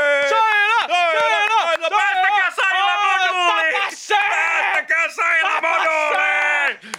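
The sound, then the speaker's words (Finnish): A loud crowd at the final of a financial administration competition yells and cheers almost continuously for several seconds, many voices shouting and whooping over one another with only a few brief dips. “siellä Saila kisailee ja siellä tuntuukin olevan yleisölle ja kovaa meininki”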